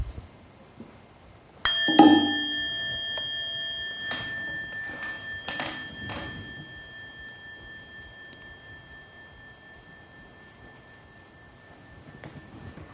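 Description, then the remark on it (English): A single bell is struck once and rings on with clear, sustained tones that slowly fade over many seconds, with a few soft knocks early on. “Just take the time and listen to the sound of the bell.”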